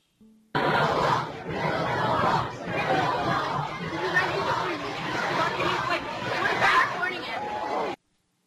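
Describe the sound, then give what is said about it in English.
A middle school cafeteria full of kids chanting "Build that wall" together, a dense, loud wall of young voices that keeps going for several seconds, swelling into louder shouted bursts over a steady roar of babble. “It's just a cafeteria full of kids chanting that.”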